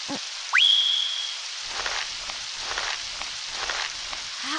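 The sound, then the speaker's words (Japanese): Steady rain hisses throughout beside a muddy bog, with soft irregular patter and drips joining after a moment. A brief rising whistle-like tone sounds early on and holds for about a second. No one speaks. “神官様、どうしてこんな雨の中、こんな泥沼の前で。”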